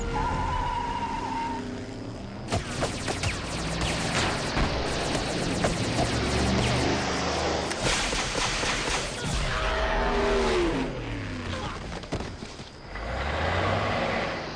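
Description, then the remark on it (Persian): A car engine roars and revs hard, rising in pitch as Kevin's car speeds up without braking, with several throttle surges and gear shifts across a loud, continuous stretch with no talking. “نمیخوای ترمز کنی کوین؟”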